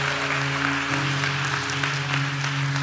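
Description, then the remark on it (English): An audience claps steadily for a few seconds, a dense, even wash of many hands with no voices, while a sustained low musical tone holds underneath. “That's a good place to clap, and you almost missed it.”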